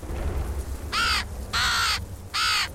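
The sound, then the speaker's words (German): A crow caws three times, each call a harsh, raspy burst lasting about half a second, the middle one longest, over a faint low rumble with no one speaking. “Eine Krähe und eine Vogelscheuche.”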